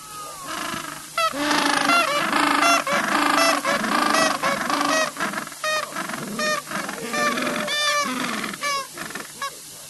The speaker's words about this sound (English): Yes, not snoring, but it is penguins. What kind of penguins? Gentoo penguins. Gentoo.